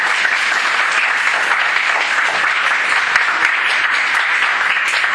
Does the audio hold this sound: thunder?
no